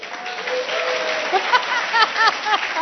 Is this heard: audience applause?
yes